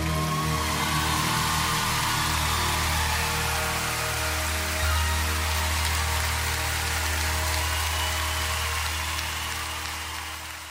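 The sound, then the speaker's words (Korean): A concert audience applauds and cheers a singer after a song, a dense, steady roar of clapping with a low hum underneath, holding strong throughout before easing off slightly at the very end. “Ne, 박수 소리의 환호성에 이 맛에 가수를 하는 게 아닌가 싶네요.”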